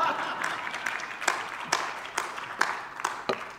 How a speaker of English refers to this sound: And you can clap anytime you want to.